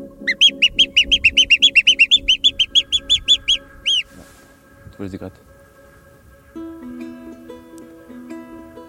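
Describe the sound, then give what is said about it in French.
A person whistles an imitation of birdsong: a rapid run of about fifteen bright chirps lasting several seconds, then quieter scattered tones and soft background sounds. “En fait, quand je siffle un oiseau, c'est que je me retrouve dans la même position que quand j'avais 7 ou 8 ans et que j'ai commencé à le faire.”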